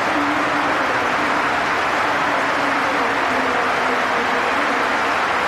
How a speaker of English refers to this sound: Old Trafford stands as one to applaud through into the semi-finals of this season's UEFA Champions League, thanks to a hat-trick from Ronaldo.